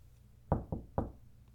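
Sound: knock on a door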